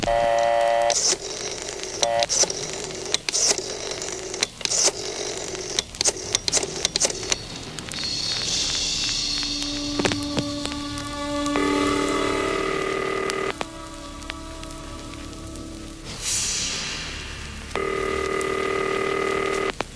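A telephone being dialed: a quick run of sharp clicks and button presses, followed by steady electronic tones on the line. Fairly loud, with no one talking.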